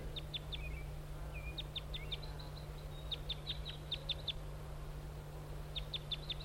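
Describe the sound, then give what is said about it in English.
A wild bird perched on a spruce across a road gives short, high-pitched flight calls in quick clusters of sharp chips, pausing between bursts, over a steady low hum and faint background noise. “and giving flight calls.”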